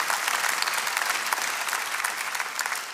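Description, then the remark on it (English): A crowd claps steadily, a dense, sustained patter of many hands at an even loudness with no voices over it. “Yeah, you can give that round of applause.”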